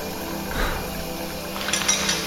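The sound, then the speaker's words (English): Steady hiss of steamy shower water pouring into a small porcelain tub, continuous, with a few light clinks and knocks near the start and end. No voices. “stepping into the steamy water, joining Anna in the small porcelain tub”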